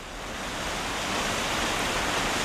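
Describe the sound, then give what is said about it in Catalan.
A steady wash of sea surf rolls in at Palamós, in the Baix Empordà, building gently in loudness over a couple of seconds into a broad, hissing roar of waves breaking on the shore, with no voices. “Ara, Núria, ens situem al costat del mar, a Palamós, al Baix Empordà.”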